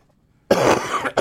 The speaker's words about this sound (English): You turned down my microphone, and then you had a big tubercular phlegmy cough in your own microphone.